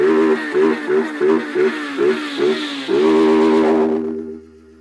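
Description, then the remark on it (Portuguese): A voice imitates a revving motorcycle, with a quick run of about seven rhythmic throttle blips, then a long sustained rev that fades out. It's loud and on its own. “Em frente o paredão na máxima na minha moto invisível.”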